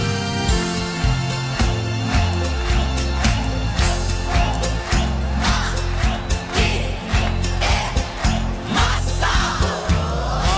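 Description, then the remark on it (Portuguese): An audience at a live show claps in steady rhythm along with loud live music as the singer asks to hear only the clapping, the sharp claps landing on the beat over a full band and crowd noise. “Quero ouvir só as palmas agora!”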